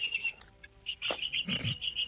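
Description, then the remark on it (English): Birds chirping outdoors around a man sitting under a tree, in a steady run of high, repeated notes, with a brief louder rustling burst near the end and no one talking. “Dude, what is going on with these birds, He's sitting under a tree.”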